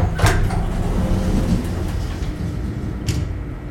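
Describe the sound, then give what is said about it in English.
Heavy metal lift doors clank and rumble as they slide open, a steady mechanical grinding running throughout, bracketed by two sharp metallic knocks, one near the start and one near the end. “After what seemed like a full minute, the familiar whirring noise started up again. The metal doors creaked, then began to slide apart.”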